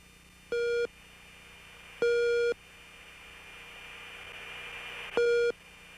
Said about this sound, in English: All right, so we got some tones there. What are those? Those are raw gear, RWR, radar warning receiver tones.